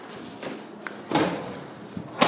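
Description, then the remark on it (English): A door opens into a stairwell, with a few muffled clunks and scrapes over a steady background hiss. No one speaks. “In the door, three doors on the right, and into the stairwell.”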